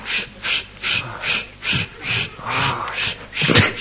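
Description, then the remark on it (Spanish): A man pants heavily: about eight loud, raspy breaths in a quick, steady rhythm, each in-and-out gasp harsh and breathy, with no talking. “¿Por qué jadea?”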